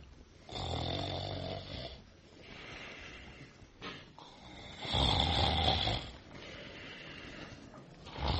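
A person snores heavily in deep sleep early in the morning, shortly before a 5 a.m. alarm is due to go off, with about four long, rasping breaths in a slow, steady rhythm, the loudest near the middle. No one speaks.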